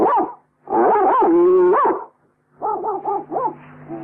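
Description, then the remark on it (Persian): A dog signals a coded telegraph-style message: a brief yelp, then a long drawn-out howl, a pause, and a quick run of short barks and a longer closing bark, loud, in a deliberate-sounding pattern. “یه زوزه بلند، دو تا کوتاه، یه واقع کوتاه، یه واقع بلند.”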